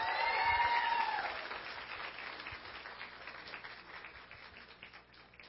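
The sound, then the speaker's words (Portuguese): An audience in a plenary session applauds Roberta Brito during the signing of a term, with dense, steady clapping that starts fullest and gradually thins and softens over several seconds, with a brief tonal ring in the opening moments and no one speaking. “Aplausos a Roberta Brito.”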